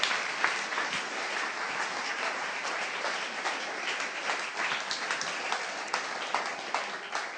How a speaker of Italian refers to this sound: Un applauso forte a Cristo.